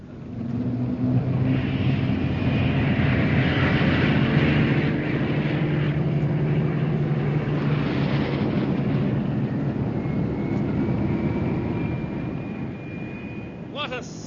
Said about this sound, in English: A thousand planes taking off towards Blackpool.